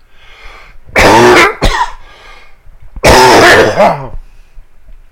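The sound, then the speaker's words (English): Two loud bursts of coughing and throat clearing in the morning, to clear a frog in the throat, each a rough, gravelly hack lasting about a second, separated by a short pause, with no talking in between. “Excuse me just a second, another frog in my throat, it's morning.”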